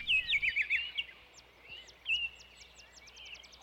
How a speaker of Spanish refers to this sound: No sé qué es lo que me gusta más. El olor del cacao, el olor de las hojas sobre el piso mojado, el color del maíz, el trinar de los pájaros o este paisaje maravilloso.